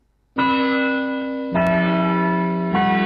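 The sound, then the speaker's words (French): Loud bells ring out in three successive strikes, each new tone cutting in over the last and sustaining with a rich, shimmering resonance. No voices are heard. “Il y a le rayon cloche.”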